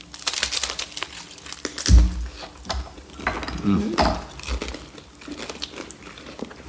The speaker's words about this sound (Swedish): Men om man äter sin SOS och sen smuttar på alkoholen och akvaviten tillsammans, kan vi kolla lite vad som händer. Vi gör det, vi tar ett, ja, tar ett lite knaprigt bajt. Ja, vi tar ett knaprigt.